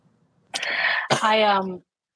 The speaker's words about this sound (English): The cough is still there. Sorry, pal. I know. I'm sorry. It happens. If it's not your cough, it's my mic, and that's what happens on the road.